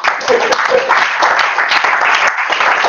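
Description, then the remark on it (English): A crowd breaks into steady applause, many hands clapping together in a dense, continuous patter that holds at an even level for the whole stretch. “If you want to clap, clap.”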